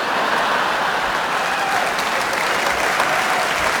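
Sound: applause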